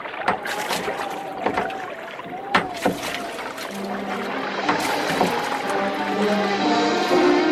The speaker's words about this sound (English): Let's go. And grab an oar. I'll need help. Also, rowing will help keep you warm.